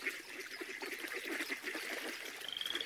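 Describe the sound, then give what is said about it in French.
A dense chorus of toads croaking in rapid, overlapping pulses at a water-lily-covered pond in a forest, steady, with a thin high trill rising near the end. “En dessous d'une souche, deux crapauds tout verts, couverts de boutons et pustuleux à souhait, se réveillent, s'étirent et bâillent.”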